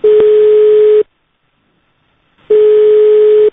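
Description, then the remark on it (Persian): A telephone busy signal after a call drops: a steady mid-pitched tone sounds loudly for about a second, cuts to silence, then returns, with no voices. “اصلا قطع می‌کنه.”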